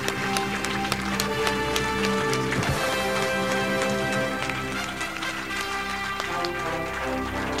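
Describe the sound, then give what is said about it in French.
An audience at an awards ceremony claps steadily and densely for several seconds as the Grand Prix, the Amphore d'or, is announced, a continuous crackle of many hands at even loudness, with sustained musical tones running underneath. “Continuez d'applaudir parce qu'il n'y a personne pour prendre le prix.”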